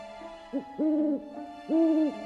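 An owl hoots: a brief call followed by two long, drawn-out, even hoots with a pause between them, clear over a faint steady background hum, with no talking.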